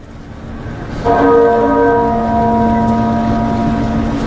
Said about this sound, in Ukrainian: Приглушений дзвін супроводжував труну Маргарет Тетчер в один з найвеличніших соборів у Лондоні – собор Святого Павла.